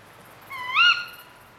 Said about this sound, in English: The correct answer, obviously, was Tawny Owl.